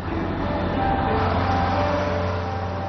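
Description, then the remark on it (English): A tour bus rolls along with a steady, continuous rumble, its low engine drone and road noise holding an even level throughout, heard from inside the vehicle with no voices. “So, we missed the bus, but I did manage to get us a seat on a tour bus.”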